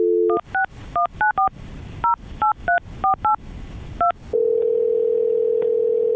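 A brief dial tone, then about eleven quick two-tone keypad beeps in uneven bursts as a phone number is dialed for a call from the radio station Magic 92.5, followed by a steady humming line tone. Clear, with no talking.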